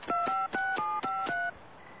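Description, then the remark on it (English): Six quick telephone keypad dialing tones beep in rapid succession, each set off by a faint key click, then the line falls to a quiet hiss. No one speaks. “Give me the phone, quick!”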